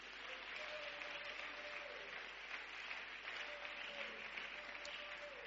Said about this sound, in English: It is grace that is keeping you. And that's why you need to give grace the loudest clap offering of praise.